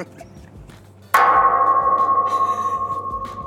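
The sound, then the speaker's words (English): A single sharp metallic clang as a golf ball strikes the metal border fence in Eagle Pass, followed by a long ringing tone that slowly fades, bell-like over a low background rumble. “That's what it sounds like when a golf ball hits the border fence.”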